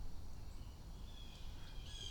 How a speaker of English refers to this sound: Okay, birds are making weird noises. Squawking at me, talking at me. Doing birdie things.